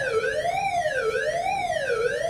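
A loud siren wails continuously during a routine tornado drill at a school, at the end of the day. Its pitch sweeps up and down roughly once per second in a steady cycle, with no voices over it.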